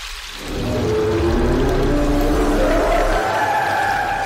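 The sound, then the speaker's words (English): A long, low whale call with slowly gliding, moaning tones, rising and sustained over a steady wash of rushing water, fairly loud, with no one talking. “No more whale! You can't speak whale!”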